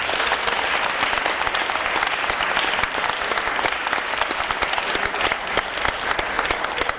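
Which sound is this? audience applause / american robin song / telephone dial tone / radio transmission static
audience applause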